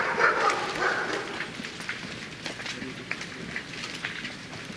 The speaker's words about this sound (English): So they keep also dog? No. I was thinking there was no dog. They're stray. Huh? Strays. Many dogs live around this campus. Oh. An unusual number. Very large.